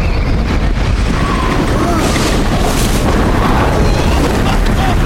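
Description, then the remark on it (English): A loud, continuous roar of violent wind from a massive gray tornado funnel, broad and rumbling with deep booming gusts, steady throughout with no pauses. “looks behind him to see a massive gray funnel of a tornado whirling toward him.”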